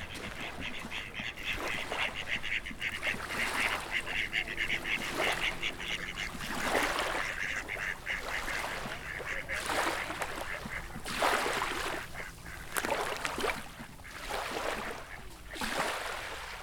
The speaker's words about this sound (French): Sur les rives, on peut apercevoir des oiseaux d'eau, plusieurs types de grèbes, c'est des canards plongeurs, donc il peut y avoir le grèbe à cou noir, le grèbe castagneux, le grèbe huppé.